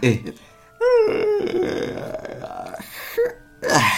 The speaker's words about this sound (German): Pias großer Bruder gähnt laut, aber... Hört sich das wie eine rasselnde Kette an